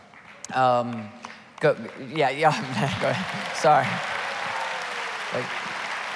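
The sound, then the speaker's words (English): Light, scattered clapping from just a few people in a church, clapping for the church's talent, a thin patter that carries on underneath a man's voice as he talks over it. “If you're going to clap for the talent in this church, you got to do a little better, right, than just a few.”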